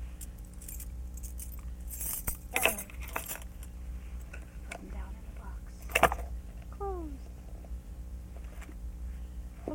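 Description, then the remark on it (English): Metallic keys jangle and clink in a few short bursts, with a sharp rattle as they drop into a box amid soft background rustling. “The keys go in the box?”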